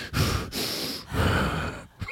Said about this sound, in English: Oh, I is that all you? Are you just, labored breathing.